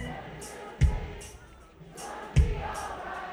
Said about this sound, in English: Let's just hear you guys sing it. Come on, so I know the truth.